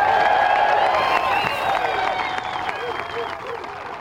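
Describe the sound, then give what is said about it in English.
A large golf crowd at the Waste Management Phoenix Open applauds and cheers as Phil Mickelson is introduced, a steady, dense roar of clapping with shouts and high whoops rising above it, easing slightly toward the end. “So a huge crowd for Phil there, and they're following him around on the course.”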